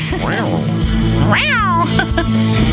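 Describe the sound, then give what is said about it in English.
A cat meows loudly, two drawn-out cries with the second longer and higher, followed by a short chirp, over a steady low background hum. “Kitty's got claws.”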